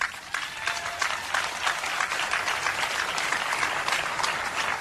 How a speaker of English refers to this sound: So as us as the adults, you can guys clap it up if you want to.